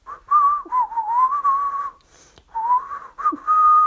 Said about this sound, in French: Pendant ce temps, Poulet des Bois, adossé à un arbre, sifflotait en rêvant.